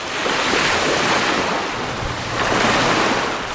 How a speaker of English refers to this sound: Waves from the Good News Bay gently laps over the shore near the plant. Good News Bay is located on the Bering Sea coast between Dillingham and Bethel.